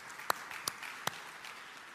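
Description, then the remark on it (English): A church audience applauding the pastor in the name of Jesus: a steady, fairly soft wash of many hands clapping, with three sharp, louder individual claps popping out above it in the first second. “Would you give him and his study and his heart towards God and his listening ear, would you give all of that a round of applause in the name of Jesus?”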